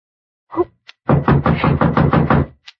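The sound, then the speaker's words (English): A quick, steady run of about seven or eight loud knocks on a door, with no voices, preceded by a brief soft thump and a faint click. “Someone at the door.”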